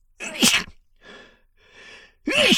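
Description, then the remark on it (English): Two loud sneezes, one near the start and one at the end, each a sharp explosive burst, separated by quieter breathy sniffs and inhales in between. “I'm gonna sneeze.”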